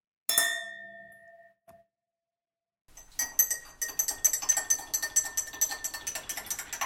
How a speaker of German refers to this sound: Auf die erste Buchbewertung müssen wir doch gerade zusammen mit dem Schum Tee anstoßen.